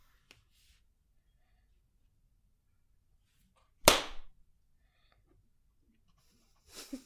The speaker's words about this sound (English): how do you feel about that clap?